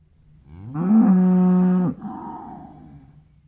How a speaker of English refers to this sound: "No, that is only a cow lowing," said the little girl.